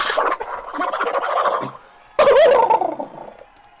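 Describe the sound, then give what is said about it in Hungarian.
Several people imitate a horse's neigh together with wavering, whinnying voices. A long burst fades out, then a second, louder one breaks in after a short pause and trails off. “De én amondom volna, hogy miatt bemutatkoznánk szépen kedves hallgatóknak, szerintem nyerítsünk egyet úgy csapatosan!”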